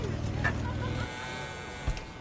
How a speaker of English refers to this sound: parks her VW in front of a stucco house.